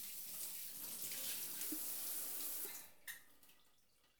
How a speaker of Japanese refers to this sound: 左腕も泡を流して、肩から背中の湯を流して、背中の泡を、そのまま私の泡も流してしまいますね。